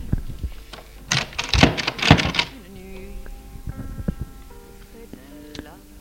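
A woman opening a door: a loud burst of rattling clicks and clunks, followed by a few softer thuds and a quiet, steady hum.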